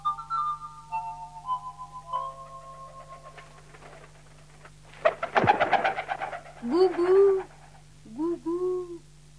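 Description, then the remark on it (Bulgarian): Two soft, low cooing calls from a dove sound near the end, each a short rounded warble, following steady tonal notes and a brief burst of rustling noise. “О, гълъбице моя, кръстнице, не очаквах да те срещна тук в обора. Дойдох да се сбогуваме, дете мое. Гу-гу.”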